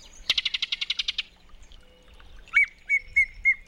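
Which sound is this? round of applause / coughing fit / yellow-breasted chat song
yellow-breasted chat song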